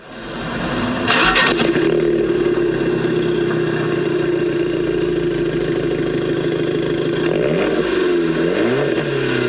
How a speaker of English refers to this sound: Well, here's the sound of the Fiat 500X.